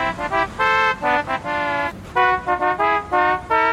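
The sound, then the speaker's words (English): A novelty car horn at the A&M Autoland car dealership, programmed with a musical phrase, honks out a quick tune, a run of loud, brassy notes of changing pitch in a bouncy rhythm, with short gaps between bursts and no talking. “Now at A&M Autoland, purchase any car and we'll program a novelty car horn with the musical phrase of your choice.”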